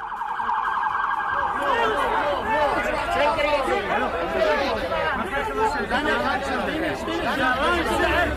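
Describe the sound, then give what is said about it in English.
A crowd of about 1,000 people in the streets of Brooklyn, New York, at a funeral for a rabbi that police broke up: dozens of overlapping voices chattering and calling in a loud, steady roar, with a sustained electronic wail, like an alarm, during the first couple of seconds. “Police in New York had to break up a funeral for a rabbi in Brooklyn on Tuesday when 1,000 people spilled into the streets for it.”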